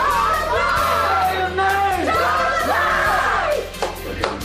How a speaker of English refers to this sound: Derek Chauvin, the former Minneapolis police officer, has been found guilty on all counts in the death of George Floyd. … family in Houston, as you just heard there, erupting in cheers and chants yesterday after the verdict